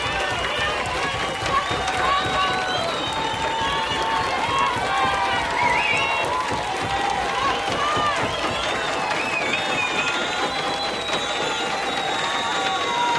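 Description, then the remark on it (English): A crowd pounds steadily with feet, hands and glasses, a dense rapid thumping mixed with clinking and shouting voices and whistles, loud and unbroken throughout. “A lot of pounding of feet, hands, glasses, and one person holding a lighted match in the middle of the crowd.”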